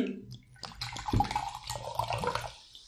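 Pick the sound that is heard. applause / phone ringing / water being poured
water being poured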